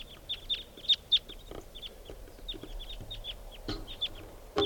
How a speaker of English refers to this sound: flock of about 10 birds here, and they're all type 2s. Maybe 8 or 9 birds.